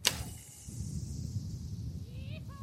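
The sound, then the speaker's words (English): A sharp snap of a bowstring releasing as an archer anchored to a tree shoots an arrow across the Devil's Cross canyon in Sonora to carry a thin line over, followed by a long fading whoosh as the arrow flies off, over a steady low rumble of outdoor wind. “pulls the arrow back and raises the bow.”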